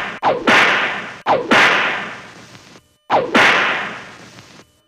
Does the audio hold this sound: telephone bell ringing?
no